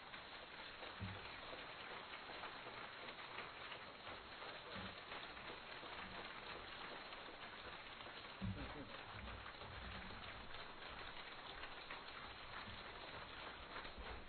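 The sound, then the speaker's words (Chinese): An audience at a Buddhist gathering claps steadily to welcome Lu Junhong, a dense, continuous wash of applause that holds at an even loudness throughout, with faint voices occasionally showing through underneath. “现在让我们以最热烈的掌声恭请我们尊敬的卢军宏台长。”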